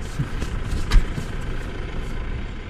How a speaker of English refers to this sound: A tractor engine and the occasional car are about all that disturb the bucolic landscape near the small town of Feldkirchen.